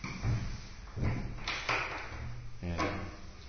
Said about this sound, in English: You push the door, push it.